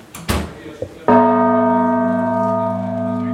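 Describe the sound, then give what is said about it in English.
The largest bell in the tower of Holy Trinity church, weighing almost 3 tons and almost two centuries old, strikes once after a few faint knocks and rustles, then rings out loud with a deep, sustained hum of layered tones that slowly fades. “sounding the largest of the bells, which weighs almost 3 tons. When it rings, I can feel the vibrations in my bones.”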